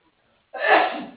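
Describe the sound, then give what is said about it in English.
A single loud sneeze bursts out after a brief silence, a sharp noisy blast that trails off quickly. “Bless you.”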